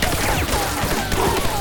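A heavy gunfire barrage of Nazis firing with everything they had roars without pause, dense and loud, the shots blurring into one continuous wall of noise with faint whistling tones streaking through it.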